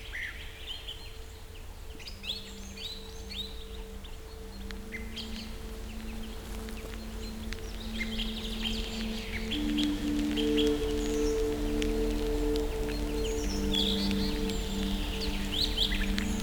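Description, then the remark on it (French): Several birds chirp and sing at dusk in the Loutchenets forest, in bursts of high, quick notes over a steady low hum, with a faint drone rising in the background. No voices are heard. “Les oiseaux commencent à chanter, enfin, à marquer leur territoire pour la nuit, qui va bientôt tomber.”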